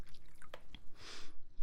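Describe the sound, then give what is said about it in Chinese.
Alcohol is poured into a glass in one short, soft splashing gush, preceded by a few faint drips and small clinks, with no one speaking. “来喝点酒吧，来，姐姐给你倒。”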